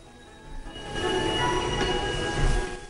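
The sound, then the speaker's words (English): A steam train rumbles as it slows to a stop on snowy ground, its wheels letting out a steady high metallic squeal over a deep continuous rolling noise, with no voices. “He walks along beside the train as it comes to a stop.”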